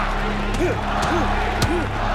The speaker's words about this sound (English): And Balboa immediately going to work to the body. Huge right hook. Balboa ripping away at Dixon's body. These are big punches.